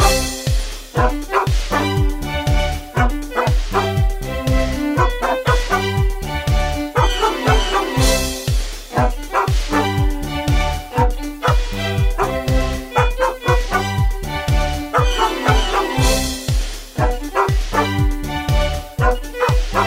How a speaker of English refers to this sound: this week's theme song is the dog chorus Jingle Bells